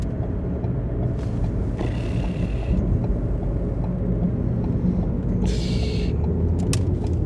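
Steady low engine rumble from inside a moving car driving around Nordhorn, turning onto Gildehauser Weg, continuous and fairly loud, with brief hissy bursts of passing air or tire noise; no one speaks.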